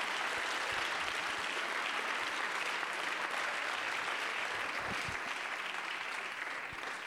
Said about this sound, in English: Let's clap our hands unto God and bless his name.